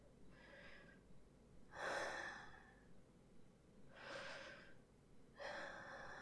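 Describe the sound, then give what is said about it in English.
Heavy, labored breathing, with four loud, airy breaths in a slow, uneven rhythm, some sounding like sharp gasping inhales and others like long exhales. No one speaks. “Yeah, I guess I am breathing a little heavy.”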